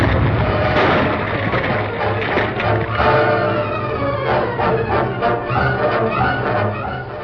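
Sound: explosion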